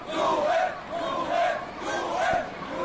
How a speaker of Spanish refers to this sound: Este, de la frontera entre Serbia y Hungría, entre sirenas, entre gritos, donde los refugiados intentan entrar en el espacio Schengen antes de que el gobierno húngaro tenga terminado el muro que levanta en esa zona.